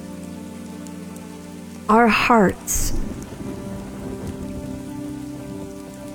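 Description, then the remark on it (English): Steady rain patters throughout as a man speaks a few words, then a sharp thunder crack bursts out and rolls into a low, lingering rumble beneath the rain. “I had to respectfully wait for the thunder crack to resolve before I could finish that thought.”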